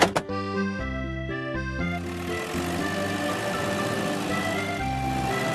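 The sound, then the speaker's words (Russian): The heavy diesel engine of a wheel loader rumbles steadily, its deep droning tone shifting in pitch as it revs and then settles into a continuous running hum, with a couple of sharp clunks at the start. The loader has arrived to clear snow. “Погрузчик приехал убирать снег.”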